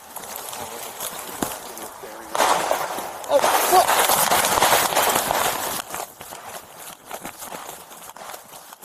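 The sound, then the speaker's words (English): A couple of sharp gunshots crack out at a homeless encampment in the woods, followed by a stretch of hurried running footsteps of police officers heading toward the scene of the shooting over a rushing, noisy wash of movement, with faint voices in the mix. “Those were gunshots and the sound of police officers running toward the scene of the shooting.”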